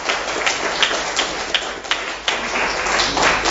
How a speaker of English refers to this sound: They've been fantastic. Give them a round of applause, because they've been fantastic.